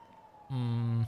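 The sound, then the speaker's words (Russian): A police car siren from a police car driving along lets out a single short, loud blast, a steady buzzy tone lasting about half a second, heard after a moment of quiet. “Хотя погодите, вон полицейская тачка едет.”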